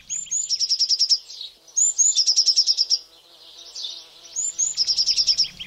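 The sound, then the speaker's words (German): Young blue tits chirp excitedly while fluttering about high in a garden tree, three quick bursts, each a couple of thin high notes followed by a rapid, bright trill, with no voices. “Das waren bestimmt die jungen Blaumeisen, die oben im Baum aufgeregt umhergeflattert sind.”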